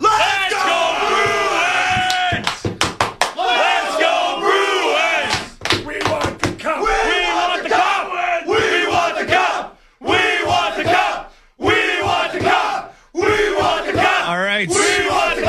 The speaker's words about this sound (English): All right, before we let you guys go, can we get one more thunderous cheer?